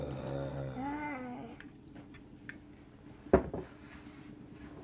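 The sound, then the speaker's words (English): A low, wavering monster growl rumbles for about a second and a half, then fades into quiet background, broken later by a single sharp thump. “I can hear some growling.”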